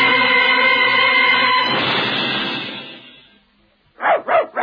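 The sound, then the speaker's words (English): A dense, loud wash of sound fades away to near silence, then a dog barks three times in quick succession, fairly loud, with no talking. “Your dog gives you a lot of pleasure.”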